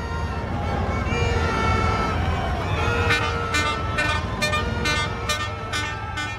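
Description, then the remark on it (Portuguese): Repeated horns of military vehicles blare in short bursts during a military parade passing in front of the seat of the Federal Executive, over a dense, rumbling crowd of a few dozen onlookers and engine noise, with honks coming every half second or so from several vehicles at once. “Nessa gravação, disponibilizada pelo site Poder 360, dá para ouvir o barulho dos veículos buzinando e de pessoas que foram assistir ao desfile.”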